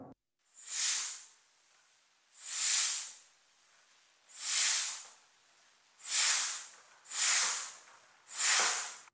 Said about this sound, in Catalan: El cuir de la manxa està foradat. L'instrument és massa vell i la fusta s'ha ressecat amb els anys. Cada vegada que omplo el pulmó, l'aire s'escapa per una esquerda d'un pam i mig abans d'arribar als tubs principals.